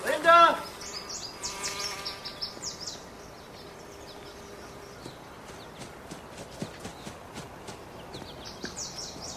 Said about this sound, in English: Bees attend an apple tree with ripe red fruit.